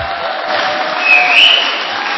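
An audience applauds steadily, a dense, continuous patter of many hands clapping with a faint cheer or whistle rising briefly near the middle, holding at a fairly even loudness throughout.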